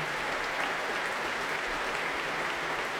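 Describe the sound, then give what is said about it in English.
The Proms audience, conductor David Robertson and the St. Louis Symphony applaud violinist Christian Tetzlaff after Beethoven's Violin Concerto, a dense, steady wash of clapping that stays loud and even throughout, with no voices rising above it. “an utterly transporting performance of Beethoven's Violin Concerto by Christian Tetzlaff, who's being applauded by conductor David Robertson and by the entire orchestra, the St. Louis Symphony, here for the first time at the Proms.”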